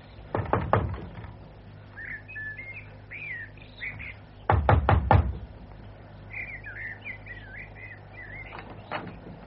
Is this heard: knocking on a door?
yes